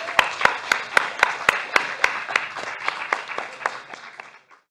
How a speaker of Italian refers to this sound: Un applauso a Ursula Le Guin anche.